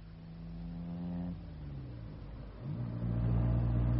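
car engine driving

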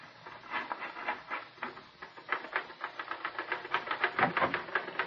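typing on a typewriter

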